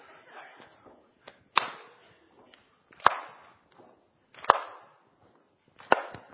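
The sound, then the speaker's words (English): Heavy, sharp thuds land in a steady beat about every second and a half, with softer extra stamps slipped in between, as a group of people stamp their feet together in time to keep the rhythm for singing a pop song chorus. “Are we stamping first or clapping first? I can't remember. Stamping, right.”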